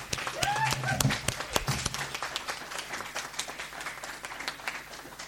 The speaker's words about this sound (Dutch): Ik denk dat dat echt een dik applaus nog een keer waard is.